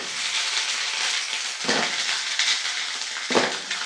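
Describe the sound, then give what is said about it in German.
Potato pancakes, three dropped in at once, fry in a pan with plenty of fat, with a steady, dense hiss and crackle, swelling briefly into louder sizzling bursts twice, with no one talking. “Jetzt muss ich hier wieder von Weitem reinwerfen. Wahrscheinlich alle drei zugleich.”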